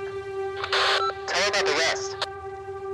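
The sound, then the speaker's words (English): A walkie-talkie crackles with a burst of static and a short, garbled radio voice, then clicks off with a brief squelch, leaving a steady electronic hum underneath. “The walkie-talkie clicks off, and I know they're talking about me.”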